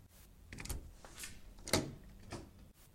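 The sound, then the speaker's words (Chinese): A door is opened with a handful of clunks and scraping knocks, one sharper click in the middle, quiet overall, with no voices. “我要开门咯。”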